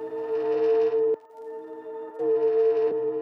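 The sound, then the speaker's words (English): A sustained, reverberant musical drone from a music snippet where the reverb got engaged holds a steady pitched tone with rich overtones, fading to a softer hum midway before swelling back up loudly. No voices are present. “That drone, that's a snippet of …, where the reverb got engaged.”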